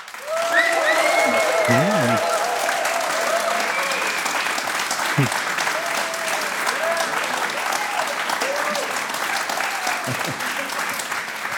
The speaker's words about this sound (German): Mann, so doll solltet ihr jetzt auch nicht klatschen. Jetzt habt ihr es verraten, dass ich das gefordert habe.